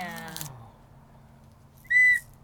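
A single short, loud, shrill whistle blast near the end, clear, preceded by a brief voiced sound and then quiet.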